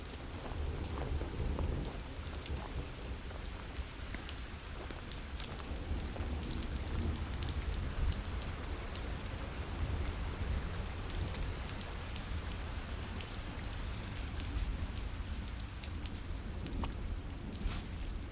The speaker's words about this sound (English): Fluted because sometimes at night, the sound of the streams that cross the mill district of Os Muiños can be heard throughout the city. Can't you feel the water running below your feet?